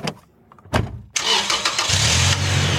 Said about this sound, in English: Okay, Bigfoot. Hop in the driver's seat, turn the engine over, and make sure she's in park beforehand. Turn engine over? It means start the engine.